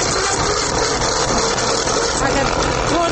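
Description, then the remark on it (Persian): A Chinese-made sharpening machine's motor runs steadily, a continuous loud whirring hum with a gritty, buzzing edge that holds the same level throughout. “صدای ماشین اول میشه که بر ما بلند کنین و بشنویم؟”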